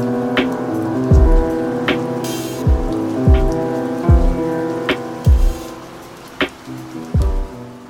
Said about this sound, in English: I'm also going to add some rain to the background, because it gives the song some white noise and increases the lo-fi aspect of it.